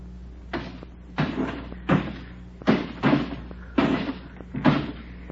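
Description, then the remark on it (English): A rapid series of about seven sharp crashes as the window panes of a house are smashed out one after another in a steady rhythm, each with a short rattling tail, over a low background hum. “And we've knocked out every pane of glass in the place.”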